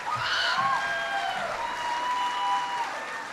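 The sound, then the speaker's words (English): A crowd applauds steadily for a few seconds while a high, excited scream and shrill whoops rise above the clapping, with no clear speech. “Somebody screamed and I thought somebody fell, but they were just excited.”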